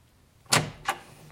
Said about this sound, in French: monte les escaliers et frappe à la porte de la chambre